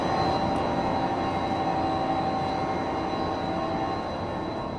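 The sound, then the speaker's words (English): Loud, steady hum of the motors of the blue water pumps inside a city's pump station 5, a continuous mechanical drone with a constant whine riding on top, unchanging throughout with no voices. “That's just the hum of the motors themselves.”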